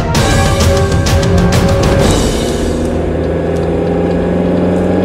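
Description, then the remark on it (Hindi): A car engine hums steadily and loudly throughout as the car is being driven, a continuous low rumble with a brief burst of brighter noise early on before settling into an even drone. “यहाँ गाड़ी में जाते हुए”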